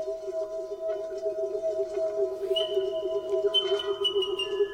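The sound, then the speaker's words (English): A South Island kakapo call, a steady, resonant tone held unbroken for several seconds, with a thin, higher whistling note joining partway through; no voices. “The thing about the calls of South Island kakako, unlike any other bird call I've heard in the world, is they seem to be able to produce a natural resonance.”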